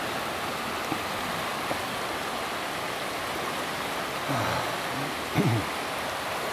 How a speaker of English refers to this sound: There's Chub Creek 3. It's actually a river. It's about 30 feet wide or more.